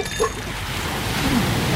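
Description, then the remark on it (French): A steady wash of ocean surf fills the whole moment, a broad hissing roar that swells slightly toward the end, with no voices over it. “Et des vagues dodues. Arrêtez les vagues.”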